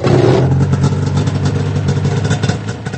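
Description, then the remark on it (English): A standard two-stroke snowmobile engine, burning a mixture of gas and oil, runs during a demonstration on a snow-covered front lawn: a loud, steady buzzing drone with a rough, raspy edge that holds at a constant pitch throughout, with no one talking. “First, a standard two-stroke engine, which burns a mixture of gas and oil and emits a cloud of blue smoke.”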